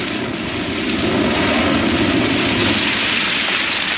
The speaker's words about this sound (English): We may get the full force of the blast if the rocket tilts away from the tower.